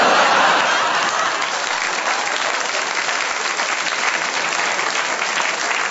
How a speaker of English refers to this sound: Do you realize how cruel that applause was?